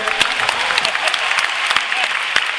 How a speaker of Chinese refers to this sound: 好，非常感谢，再一次热烈掌声